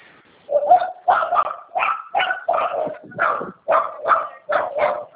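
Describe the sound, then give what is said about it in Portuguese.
Dogs bark in a fast, steady series of about ten loud yaps over a few seconds while being walked along a street, with no talking in between. “Esse barulho é eu andando com os cachorros aqui na rua, tá?”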